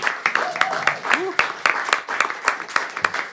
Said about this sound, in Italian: Io vi chiedo un grandissimo applauso